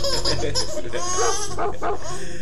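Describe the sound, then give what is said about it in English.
A voice imitates a dog barking with a few quick bark-like yelps, mixed with bright, giggly laughter that sounds like a small child. “The dog goes woof woof.”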